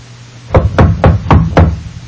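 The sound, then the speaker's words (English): Five quick, evenly spaced knocks on a door, sharp and fairly loud, with no voices and only a faint low hum underneath. “A knock comes at her door.”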